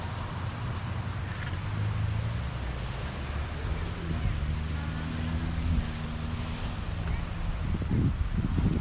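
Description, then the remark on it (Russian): A calm ocean with no real waves washes steadily against the shore on a sunny day in a continuous soft hiss, with wind rushing across the microphone and a faint, indistinct voice murmuring low in the mix. “А море сегодня спокойное. Оно же океан. Волн особых нет.”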